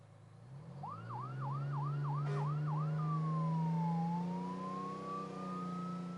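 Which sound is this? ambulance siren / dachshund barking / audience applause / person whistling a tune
ambulance siren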